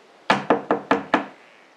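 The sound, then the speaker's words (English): Five quick, evenly spaced knocks on a door, made by squirrels with pine cones, fairly loud, like something hard rapping on wood, with a short fading ring after the last one and no voices. “Squirrels always knock at my door with pine cones.”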